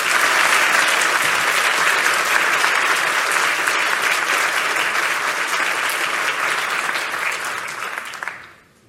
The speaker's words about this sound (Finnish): Maarit Lehti on valitettavasti estynyt saapumasta tilaisuuteen, mutta annetaan hänelle siitä huolimatta raikuvat aplodit.